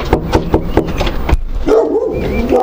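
A dog, one of several big, soft dogs for sale, barks in a quick rhythmic run of about six sharp barks, then breaks into high, wavering whimpers and whines, fairly loud with no talking.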